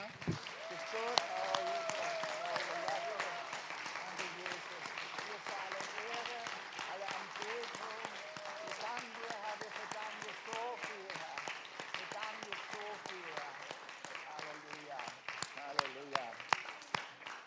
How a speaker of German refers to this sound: Und ich hatte noch mal so einen Wunsch, dass wir ihm einfach noch mal so einen richtig großen Applaus geben. Amen.